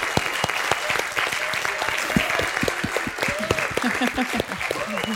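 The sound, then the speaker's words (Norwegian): A live audience at Experimentarium claps steadily in dense, continuous applause for several seconds, giving themselves and the researchers a big hand, the sharp overlapping hand claps holding an even loudness, with a few faint voices and whoops mixed in toward the end. “Giv lige jer selv og forskerne en kæmpe stor hånd.”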